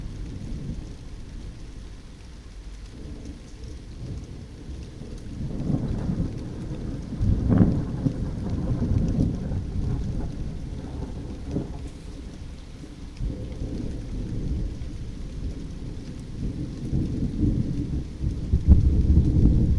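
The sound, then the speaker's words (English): Low thunder rumbles and rolls through steady heavy rain in a storm with big flashes of lightning, swelling in waves with a sharper crack around the middle, no voices. “And another big piece of lightning.”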